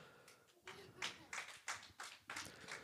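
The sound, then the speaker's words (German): A short, thin round of applause for the guests: sparse, fairly faint clapping in a loose, steady rhythm of about six or seven distinct claps over a few seconds, with no one speaking over it. “Einen ganz kurzen Applaus, bitte.”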